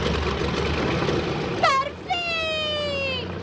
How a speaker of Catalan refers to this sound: L'hèlice comença a girar.